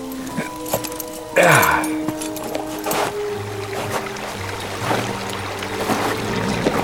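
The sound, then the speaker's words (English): Hands splash and swish through the warm, clear, bubbling water of a spring known as the Fairy Well, in cold, snowy weather, with one bigger splash early on followed by steady gurgling, dripping and sloshing throughout. “Count Otto bent over the spring and began to wash his hands in the sparkling, caressing tide.”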